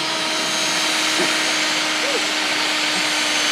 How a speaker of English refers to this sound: Let's drill the hole first. Yeah, we have to do that.